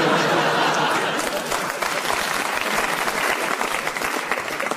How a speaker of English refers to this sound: Shocked staff were forced to lie face down on the floor, and even more shocked customers were forced to applaud after the robbery ended.